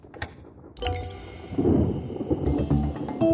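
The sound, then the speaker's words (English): A springtime storm swells in after a brief quiet: a deep rumble of thunder rolls under steady rushing wind and pouring rain as lightning strikes, with faint ringing chime-like tones drifting through, fairly loud. “While Felix dozed off, a springtime storm was brewing outside. The wind blustered and the rain began to pour, and as Moxie began its system update, the lightning began to strike.”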